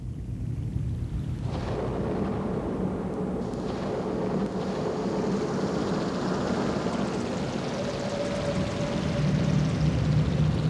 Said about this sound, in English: I think I'm hearing, it seems to me I'm hearing thunder and some kind of water, maybe rain, but I'm not sure. Right, it's synthesized water. It's not real water. All of this is synthesized?